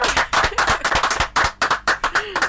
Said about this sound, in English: And I think that's an achievement for which you deserve, a good round of applause. The guys in the studio join me in giving him a good round of applause.